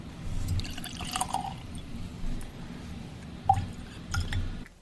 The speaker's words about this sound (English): Shall we try this with a drop of water? I think we should.